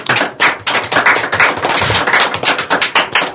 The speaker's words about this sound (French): On remercie les jeunes qui sont autour de la table. Je pense que vous pouvez vous applaudir.